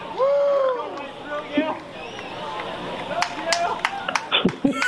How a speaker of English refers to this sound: You can always count on a woo after an explosion. Of course. There's got to be a woo. I like, right after the woo, one person is like, I'm going to start the clapping.